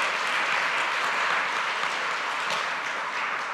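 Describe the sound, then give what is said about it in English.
Sustained audience applause, a thankful round for the kids, a dense, steady wash of many hands clapping at once with no pauses, loud and even throughout, with no voices standing out above it. “Hey, can we give a real thankful round of applause for what God's doing in these kids' lives?”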